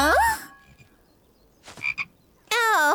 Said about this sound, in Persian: سلام قورباغه. یه لحظه وایسا. میخوای دوست جدید من بشی؟